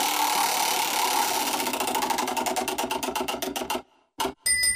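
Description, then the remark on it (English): A game show prize wheel, spun by a contestant, clatters with rapid ratcheting clicks that gradually slow and spread out until it stops, followed by a brief pause, a single knock and a bright chime. “Go ahead and spin the wheel.”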